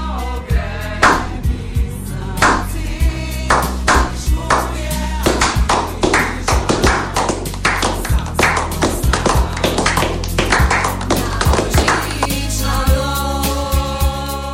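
Sharp, scattered handclaps ring out in quick, uneven bursts for about fifteen seconds over a steady low humming tone, thinning briefly before picking up again; applause for the year 2016 on Radio Študent.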